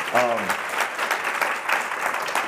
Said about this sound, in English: Yeah, you guys could totally clap for that.